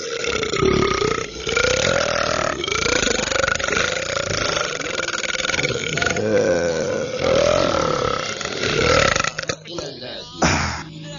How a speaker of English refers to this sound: We want to hear the belch that's going to send you away from us.